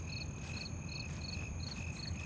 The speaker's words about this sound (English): are the mics picking up the crickets?